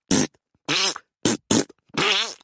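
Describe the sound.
Five wet, squelchy armpit farts made by a sixth-grade boy in quick succession, loud, each a short buzzy burst with the last two drawn out longer. No one speaks.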